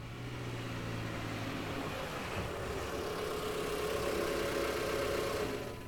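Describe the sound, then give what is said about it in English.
A car engine rumbles steadily as the vehicle pulls into a garage, a low droning hum whose tone shifts partway through before settling into an even idle, with no voices. “Just as Racheli walked toward the counter to treat herself to a cake as a celebration, she heard her parents' car pull into the garage.”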